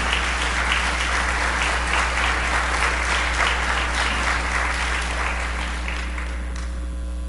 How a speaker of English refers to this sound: Give her a big round of applause for that.